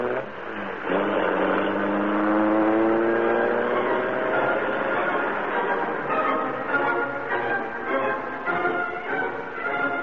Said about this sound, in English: The door slammed, the motor roared. As the great car leaped forward, a section of the wall slid up on oiled hinges, and the Black Beauty rushed into the darkness and the night.